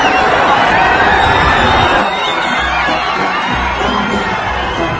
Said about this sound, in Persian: اون صدای فریادی که میشنوید لحظه‌ای که ماشین رهبر به هر بخشی از جمعیت میرسه.